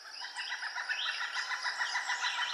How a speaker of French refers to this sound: C'est celui du grand pic, et il est unique.